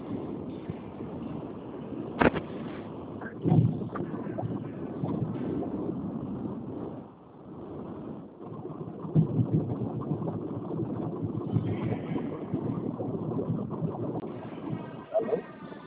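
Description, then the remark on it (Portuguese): A car engine drones steadily as a man drives the car, a muffled low rumble with some wind noise that runs throughout, while indistinct voices come and go faintly underneath. “como o senhor está dirigindo aí, se o senhor preferir, eu retorno para o senhor depois, pode ser?”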